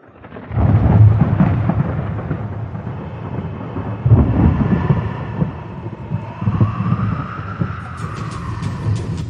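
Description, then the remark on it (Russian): A loud, deep rumbling roar rolls on continuously like a stormy ocean, swelling in heavy surges near the start and again midway, with no voices present. “Я услышала громкий рокот, будто из бездны штормового океана, и помчалась сюда.”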